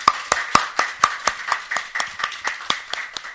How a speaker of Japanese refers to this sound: 大歓迎の拍手をしたいと思います。